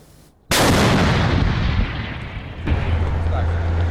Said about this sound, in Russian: Экипаж танка отработал с закрытой огневой позиции по взводному опорному пункту противника.